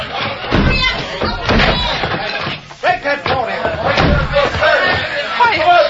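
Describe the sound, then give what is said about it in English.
A locked door with no key being smashed in: several loud, heavy crashing blows land at uneven intervals, with voices shouting in the background. “Door's locked. No key. Stand back. I'm going to smash it.”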